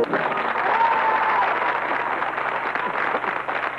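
A dense crowd of studio audience in the Studio Flora claps steadily, a wash of applause that stays loud and even for the whole stretch, with no one speaking over it.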